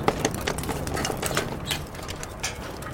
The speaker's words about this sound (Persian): من آروم با باد بزن شروع میکنم تمام طول سیخ کباب رو باد میزنم، از بالا به پایین. این کار باعث میشه که دما یک نواخت بشه.